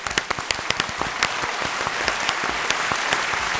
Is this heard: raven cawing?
no